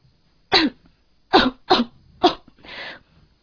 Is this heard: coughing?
yes